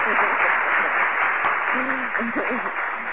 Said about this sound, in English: I mean, first of all, a round of applause for you for you calling in.